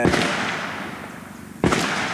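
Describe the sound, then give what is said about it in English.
Two sharp gunshots in Honduras crack out about a second and a half apart, each loud bang trailing off into a reverberant echo, with no voices heard. “The first time I heard gunshots in Honduras, I nearly dropped my recording gear.”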